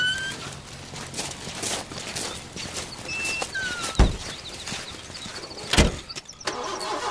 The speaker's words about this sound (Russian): Ну вот, опять машина не заводится.